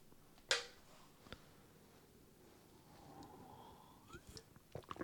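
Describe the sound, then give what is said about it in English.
Quiet sounds of someone sipping beer: a sharp clink, a soft slurping draw rising in pitch, then a few small wet clicks and swallows. No one speaks. “Let me get a sip of beer.”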